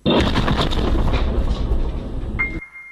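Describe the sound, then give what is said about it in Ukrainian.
A car bomb, an old van packed with TNT and set off by a remote device, explodes at a checkpoint near Mariupol as soldiers approach to inspect it: a loud blast, its dense roaring rumble filling about two and a half seconds before cutting off into a thin, high ringing tone. “Після того, як до нього з перевіркою підійшли військові, пролунав вибух.”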